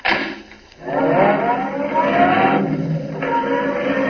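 A roadster's engine catches after a brief burst, then revs up with a rising whine and holds a loud, steady drone as the car pulls away, with no voices.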